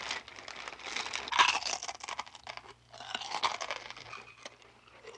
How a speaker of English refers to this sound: Crunch, crunch, crunch, crunch, crackle, crunch. Someone or something turned the knob. Out came Mr. Muntz, crunching a mouthful of potato chips.